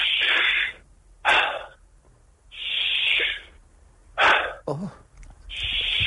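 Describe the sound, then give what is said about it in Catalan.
Loud, forceful breaths close to the microphone in a breathing exercise of active inhalation and passive exhalation repeat in a steady rhythm: sharp, noisy intakes alternating with softer releases, about five cycles, with a brief vocal grunt between two of them. “Inhalació activa, exhalació passiva, vale? I segueix el meu so, és”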